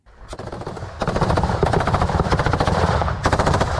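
Sustained bursts of machine gun fire from soldiers advancing in small groups over gravel paths behind armoured vehicles: rapid sharp cracks in a dense rattling rhythm that builds after a brief quieter start and stays loud throughout, with no voices.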